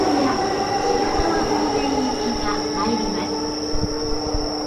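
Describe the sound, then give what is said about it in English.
A train rolls steadily along the rails with a constant rumble, a high-pitched tonal whine overhead and occasional low thumps from the wheels. “Okay, and now we're going to get on one more train.”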